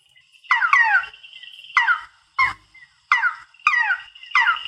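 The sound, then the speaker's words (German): A frog calls repeatedly, giving about six short, nasal, mewing cries that slide downward in pitch like a kitten's meow, spaced irregularly with no talking. “laut meiner Theorie, wäre ja B total sinnvoll, dass der Frosch so tut, als sei eine Katze”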